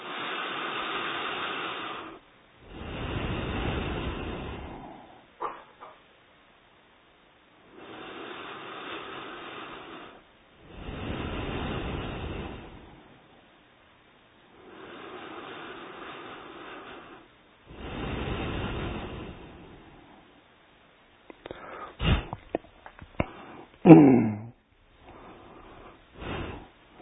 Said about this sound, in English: So now, third round, not from the mouth, from the nose, not from the mouth, from the nose. Inhale. Each time you inhale, you count one, okay?